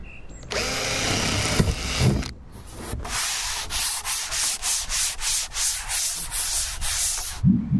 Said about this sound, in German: Ich habe Löcher gebohrt in die Holzplatte